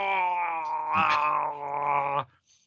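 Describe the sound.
A person voices a long, strained groan imitating a creature dying as an arrow slams through its head, a steady low-pitched moan with rich harmonics that wavers briefly near the middle, then cuts off abruptly after about two seconds.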